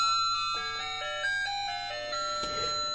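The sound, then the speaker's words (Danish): A small electronic chime on a little Christmas tree standing beside the speaker plays the Jingle Bells melody in bright, tinkling tones, steady, with no voices. “Der sker lidt et lille klokkespil i baggrunden.”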